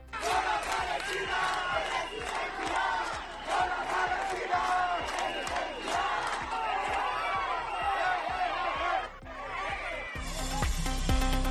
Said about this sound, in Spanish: grupos de jóvenes que se han concentrado para mostrar su apoyo al pueblo palestino y que han proferido gritos contra los asistentes. Cuando ha aparecido el lendakari Manuel Pradales, le han llamado asesino.